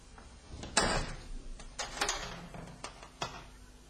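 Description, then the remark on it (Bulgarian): A door is opened and left open, with a handful of soft knocks and clicks spread over a few seconds, quiet, followed by a faint rustling stillness; no one speaks. “Оставям вратата отворена, аз ще вода и там отвън.”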